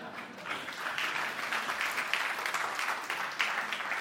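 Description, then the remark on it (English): Sustained audience applause for a speaker's 18th wedding anniversary, a dense steady patter of many hands clapping at moderate loudness for about four seconds, with no voices standing out. “That applause, my wife will take that applause because she's the one that deserves the medal for this, not me.”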